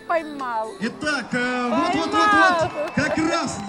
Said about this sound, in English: No swords here, but plenty of horses and tons of people who've come to watch. They've brought signs and they cheer for their teams as they struggle to rope steers in the arena.